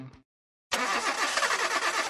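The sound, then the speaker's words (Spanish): A car engine cranks and catches after a short silence, then roars into a loud, steady running rumble that continues to the end. “¿Quieres que tu carro dure más, que corra más suave y que rinda mejor? Tranquilo, estoy hablando de tu motor.”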